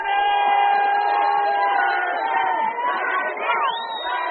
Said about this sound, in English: Only on his holiday, the Zobra is ritualistically burned to death on a hill above a baseball field filled with tens of thousands of screaming people.